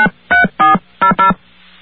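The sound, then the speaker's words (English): A quick sequence of five touch-tone keypad beeps as the full phone number of a radio station is entered, each a short steady electronic tone of slightly different pitch, pressed in an uneven rhythm with no one speaking. “Let's enter the phone number, the full phone number of this radio station.”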